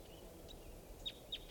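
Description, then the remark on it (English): Wild bird calls: two short, high-pitched chirps a moment apart, with a couple of fainter notes before them, all quiet over a steady low background hiss. “Sounds like type 2 birds. Wild. Wild in the sky.”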